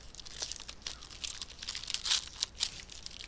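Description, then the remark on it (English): Crinkly plastic wrapper of a chocolate chip cookie being torn open, with a continuous run of sharp crackles and rips over a few seconds, loudest in a couple of bursts near the end. “I opened it really stupidly, so it might sound like I'm milking it for, like, extra noise, but I didn't.”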